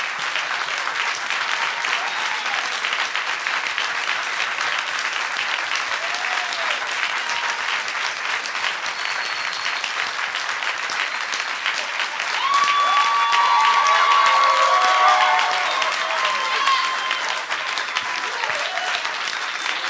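audience applause and cheering

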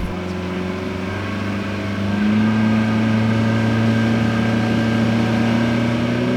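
motorboat engine running

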